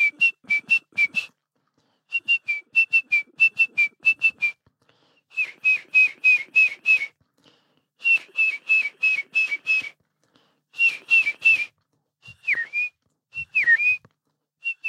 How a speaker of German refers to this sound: Aber dieses Metallische ist ganz typisch für die Kohlmeise